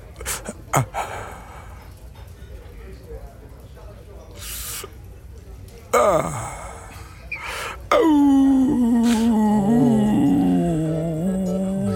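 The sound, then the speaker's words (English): A person imitates a werewolf howl: after some panting breaths and a short descending whoop, a loud, sustained, wavering howl rises up and holds until the end. “The Howl continued for 35 more minutes.”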